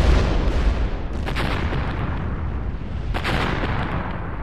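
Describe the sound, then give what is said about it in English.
Deep, rumbling explosive blasts from mountaintop mining in the Coal River Valley, a continuous heavy low roar with a couple of sharper bursts punching through around the middle, loud and without any voices. “And I got back here, I started hearing these blasts.”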